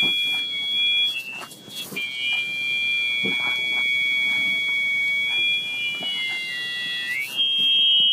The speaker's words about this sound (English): You will then hear squealing or feedback from the hearing aid.